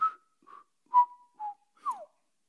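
Thin, quiet whistling in five short, separate tones, each a brief pure note with gaps between, the last one gliding downward in pitch; no voices.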